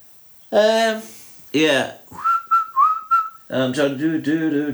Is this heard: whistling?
yes